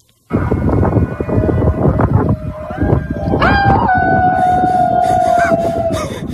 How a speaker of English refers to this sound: Listen tonight, the 8 o'clock howl.